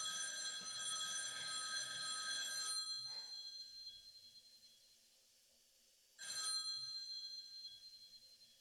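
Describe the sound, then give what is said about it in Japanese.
A shrill telephone bell rings frantically in a long unbroken burst, falls silent for a few seconds, then jangles loudly again before trailing off. There are no voices. “チリリリリン、チリリリリン、チリリリリン、チリリリリンではなく、チリリリリリリリリリリリリリリリリリリリリリリリリと壊れたようにけたたましく。”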